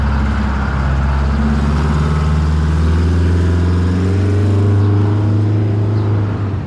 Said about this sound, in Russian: Только Катя подошла к остановке, в конце улицы показался синий автобус.